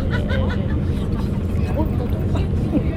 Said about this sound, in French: qui est à côté de moi dans ce bus du retour